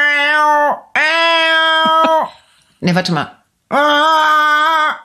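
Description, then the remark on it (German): A person imitates the calls of cranes with three loud, drawn-out, trumpeting cries, briefly interrupted by a few spoken words between the second and third call. “Scheiße, bei mir machen alle gleich die Frösche und die Kranich. Die machen schöne Geräusche.”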